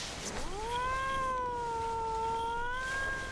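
A single long, drawn-out cat meow with a wavering, slightly rising pitch toward the end, heard up close and fairly loud with no talking.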